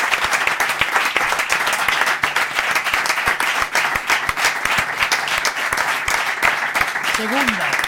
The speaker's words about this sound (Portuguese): Un fortísimo aplauso